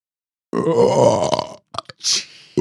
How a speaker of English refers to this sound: Wasn't quite the booger burp from Revenge of the Nerds.